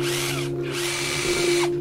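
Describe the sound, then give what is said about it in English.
A power drill, held up by a man, whirs steadily and loudly, its motor hum holding a constant pitch, with a brief dip in the whine midway before it revs back up. “He holds up the drill.”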